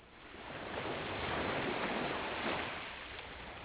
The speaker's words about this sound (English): Picture the ocean and a beach somewhere in ancient Greece. White sand, blue water, olive trees on the hill.